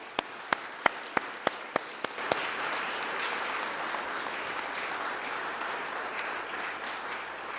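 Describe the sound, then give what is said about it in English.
An audience at Newport-on-Tay Church of Scotland applauds the children after their nativity performance in the service: eight sharp, evenly spaced claps ring out first, then the whole crowd joins in a dense, steady wash of applause that holds at the same level to the end. “So let's clap for our children.”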